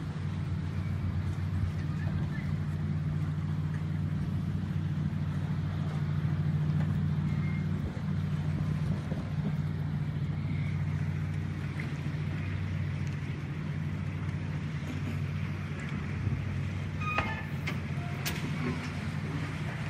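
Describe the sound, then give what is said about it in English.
A large boat's engine drones steadily, a deep, constant rumble with a hissy wash of water and wind on top, swelling slightly as it goes past a smaller boat. “And if bigger boats go past me, it affects me as well. So I've got a bit of a video clip here just to put it into context a bit.”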